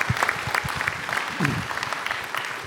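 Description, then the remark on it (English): A crowd claps steadily, a dense patter of many hands at moderate volume, with a brief murmur of a voice rising through the middle of the applause. “Let's give a round of applause for their story and their work.”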